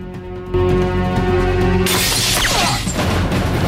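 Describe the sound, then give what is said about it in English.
A sudden sharp gunshot, fired at a guard's head in a sentry post, cuts through a sustained musical drone, followed at once by a loud burst of the small shelter's glass shattering, scattering and tinkling for a couple of seconds. “He shoots the man on guard in the head, shattering the glass of the small shelter.”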